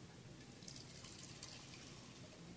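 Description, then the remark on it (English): A steady, soft trickle of tea-infused vodka being poured through a fine mesh strainer without a paper towel or coffee filter, a continuous splashing hiss for a few seconds with no one speaking. “So, fine mesh strainer.”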